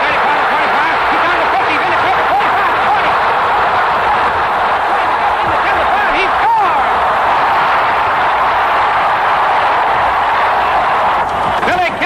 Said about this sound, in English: Some 89 yards for a touchdown. Listen to the cheer for Billy Cannon as he comes off the field. Great All-American.